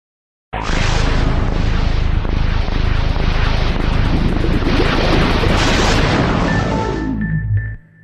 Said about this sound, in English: Brian Schmidt created one of the most iconic sounds in gaming. It was the startup sound for the original Xbox, but it sounded very sci-fi and futuristic.